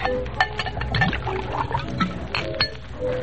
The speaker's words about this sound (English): Pour yourself a drink.